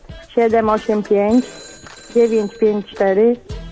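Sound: telephone ringing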